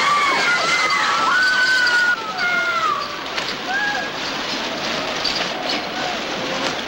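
Overhead sprinklers in a cellar spray in a loud, steady hiss of rushing water that fills the whole scene, drenching vampires, while high wavering wails and cries rise and fall over the spray.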